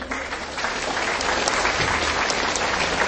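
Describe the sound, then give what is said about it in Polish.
Sustained applause from an audience at a prayer gathering, a dense, steady wash of many hands clapping at an even loudness for the whole three seconds, with no voices standing out. “Brawa dla Magdy.”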